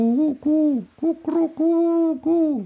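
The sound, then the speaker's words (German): A wood pigeon's five-part cooing call: low, hollow hooting notes delivered in a steady rhythmic phrase, fairly loud, with no other sounds around it. “Wir haben neben der Ringeltaube, die eben auch so fünfteilig ruft.”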